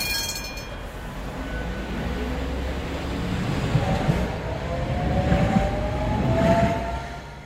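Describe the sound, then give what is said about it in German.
A Tatra tram rolls along its rails in Berlin, a steady heavy rumble with a whining electric motor that climbs in pitch as it picks up speed. No voices. “Tschüss, beziehungsweise schauen wir mal, ob es wirklich so kommt, denn irgendwie hat sich dieses Straßenbahnmodell in Berlin wieder alle Vorhersagen immer wieder erhalten können.”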